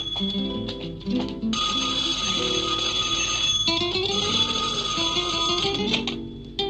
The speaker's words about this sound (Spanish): Pero por aquí, entre otros sonidos, uno de los que más se escucha es el del llamado del teléfono.